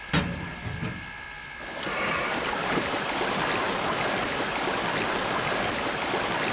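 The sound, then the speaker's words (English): After a short clank and a moment of quiet, water rushes steadily and loudly as a steam locomotive takes on water. No voices. “We need to take on some water.”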